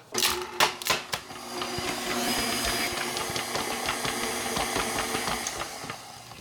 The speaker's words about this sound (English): I'm going to put them through my food mill to see if I can get some juice out of them. So I've added some pomegranate seeds to the food mill, and let's see if the food mill will work